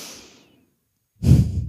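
A soft, fading breath, then a short silence and a loud, close huffing exhale through the nose, breathy and forceful, with no talking.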